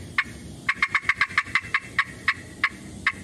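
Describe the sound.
Sharp clucks from a friction turkey call, made by drawing a striker across the calling surface: a couple of spaced notes speeding into a rapid run of cackling pops, then slowing and trailing off, imitating a hen turkey's cackle as she flies down from the roost to the ground. Clear, with no talking.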